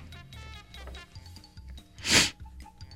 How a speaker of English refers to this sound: Pardon my sniffles.